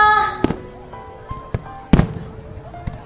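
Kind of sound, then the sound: sound effect, fireworks launching and bursting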